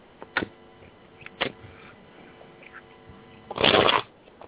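Playing cards being shuffled: a couple of sharp snaps early on, then a dense riffling burst near the end, with no talking.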